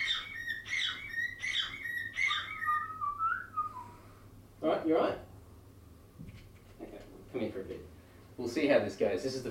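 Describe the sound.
A pet bird named Larry, sitting on a person's shoulder, whistles four quick, bright, repeated chirping phrases, then a falling glide. People start talking afterward, with a few more short chirps mixed in.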